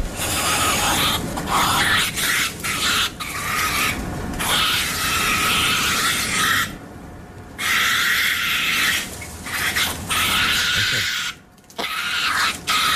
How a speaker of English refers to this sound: Number five. You've got here the opossum. Yeah, there are 30 million of these cute little native bush and bird-destroying bovine tuberculosis-riddled Aussie immigrants. Can sound a little bit like Darth Vader making love at night.